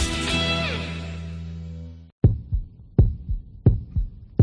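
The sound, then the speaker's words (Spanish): A steady heartbeat sound effect in a COPE Valladolid radio promo for Real Valladolid thumps in deep, low double beats, lub-dub, about four times in a few seconds, following a fading sustained musical chord that ends abruptly. “Escucha tu corazón. Pucela late.”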